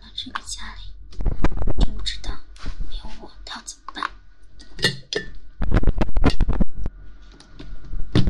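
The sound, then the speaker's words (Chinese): Dishes and cutlery clink and clatter in quick, irregular bursts while someone tidies up the kitchen, the kind of busy rattling that comes from stacking plates and gathering utensils. “行了，我先去把厨房收拾一下啊。”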